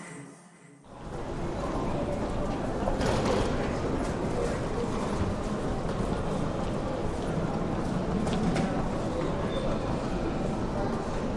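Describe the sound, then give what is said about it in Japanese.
A steady rumble of a commuter train ride on the usual train, ridden for five stations, begins after a brief quiet start, with rhythmic clatter and mechanical rattling running continuously underneath. “いつも乗ってる。いつもの電車。5つ駅を乗って降りる。”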